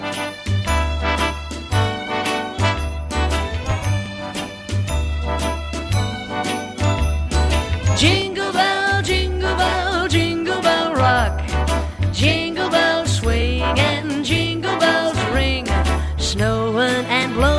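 An upbeat Christmas rock-and-roll song plays loudly with jingling bells over a bouncing bass line and steady beat; a singing voice joins about halfway through.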